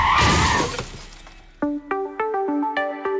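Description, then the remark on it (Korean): A loud, harsh crash as a following cargo truck hits a passenger car stopped after an accident on an expressway, with glass shattering, followed by a scatter of bright, ringing clinks as glass pieces fall and settle, with no voices. “고속도로에서 사고로 멈춰선 승용차를 뒤따르던 화물차가 들이받아 한 이번에도 2차 사고가 나면서 피해를 키웠습니다.”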